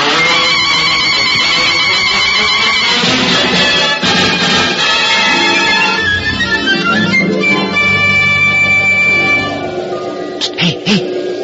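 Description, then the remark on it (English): Ringing bells and chirping bird calls overlap in a dense, loud, continuous jumble of bright tones, thinning out in the last couple of seconds to a few soft low thumps. “I hear bells, birds,”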